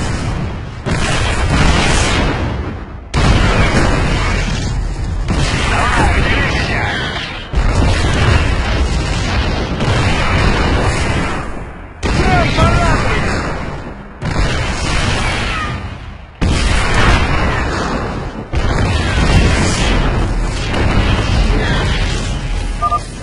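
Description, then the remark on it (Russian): Siege tank artillery cannon fire and explosions boom again and again, roughly seven loud blasts every few seconds, each trailing into a thick roaring rumble that barely fades before the next. “Осадные танки работают по старому принципу. В режиме осады бьют дальше и мощнее.”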